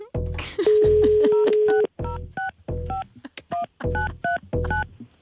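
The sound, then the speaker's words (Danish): Telephone keypad dialing tones as a radio show phones a listener live on air: a rapid series of short dual-pitched beeps in quick succession, loud, with a longer steady tone early on and no voices. “Sebastian, hvis du lytter, så ringer vi dig op lige nu”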